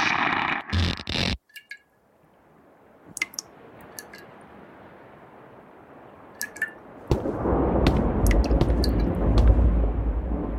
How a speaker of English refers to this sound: The forecast, or nowcast, I should say, looks like it's going to be a bad storm. Based on those rumbles, I tried to stay out of the water.